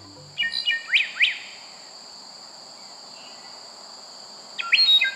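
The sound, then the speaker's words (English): Bright bird song in short bursts of rising, sweeping notes, two phrases early and another near the end, over a steady high insect drone, with no voices. “What's your choice for most beautiful bird song?”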